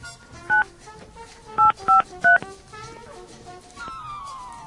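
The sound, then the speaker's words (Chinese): Four loud, clear touch-tone beeps from a phone keypad, spaced unevenly as digits are dialed to call the ticket seller, followed by a steady, fainter tone on the line. “OK， 哎，我们再看一下打电话看一下。”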